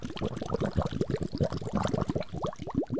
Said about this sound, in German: An der tiefsten Stelle des Sees angekommen, war ein Unterwasservulkan mit einem Loch in der Mitte und da tauchten sie rein. Dort blubberte es wie kochendes heißes Wasser.